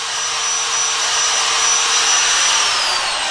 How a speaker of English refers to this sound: Makes a lot of dust, doesn't it? The person wielding the drill